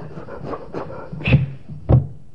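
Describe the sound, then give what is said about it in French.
A voice imitates an out-of-breath engine being run, wheezing and sputtering with uneven breathy puffs and pops, building to two louder bursts near the end, alone. “Et tourner comme un moteur essoufflé, vous savez.”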